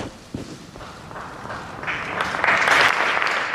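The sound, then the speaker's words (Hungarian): A large crowd applauds the Holy Father's words and blessing at the close of a Latin Mass, the clapping building steadily from a scattered start into a dense, loud, sustained roar of many hands with no voices over it. “Kedves hallgatók, ahogy szokták, szokásos módon egy nagy tapssal köszöntötték a Szent Atya szavait, az áldását”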